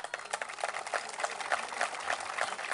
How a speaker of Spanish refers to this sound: Les recuerdo a los señores senadores que están aplaudiendo